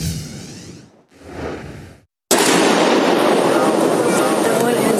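Loud, sharp bursts of rifle gunfire crackle, captured on police body camera video during a deadly shooting at Joel Osteen's Houston megachurch: two short volleys, a brief silence, then a sustained, dense barrage of rapid shots.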